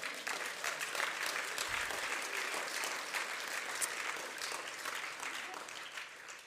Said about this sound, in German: Ich bin so begeistert, dem Jesus könnte mal Applaus geben.